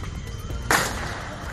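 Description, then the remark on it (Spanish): A single sharp starting-gun crack starts the Madrid Marathon, with 30,000 runners in the city's streets; it bursts out partway through, loud and abrupt with a short decaying tail, over a steady bed of crowd noise. “Ahí se estaba dando la salida a esa maratón con 30.000 corredores en las calles de la capital”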